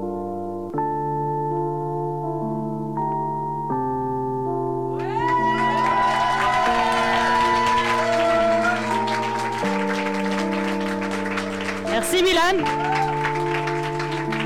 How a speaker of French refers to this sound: Ok, merci, un grand tonnerre d'applaudissements encore s'il vous plaît.